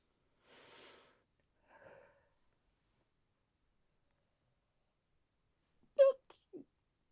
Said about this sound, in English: Oh, that was a silent yawn. And I did not like it. I think trying to be quiet actually gave me a headache.